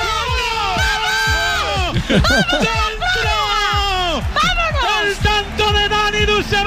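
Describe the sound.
A loud handball crowd cheers nonstop as Spain equalizes at 25-25 late in a match, while a woman's shrill voice shouts over the roar in rising and falling cries, with other excited voices whooping throughout.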